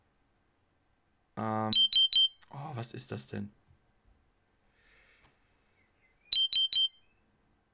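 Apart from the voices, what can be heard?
diabetes monitor alarm beeping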